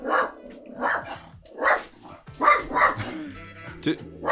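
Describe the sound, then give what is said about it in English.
A dog barks repeatedly, about six sharp, mid-pitched barks spaced unevenly over a few seconds, each loud and abrupt, with a brief pause before the last couple. “Does your dog have an Instagram?”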